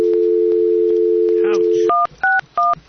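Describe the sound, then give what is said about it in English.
A steady landline telephone dial tone hums for about two seconds, then cuts off into a quick series of three or four keypad beeps, each a short two-pitch tone. Faint voices murmur underneath. “And I forgot the phone number.”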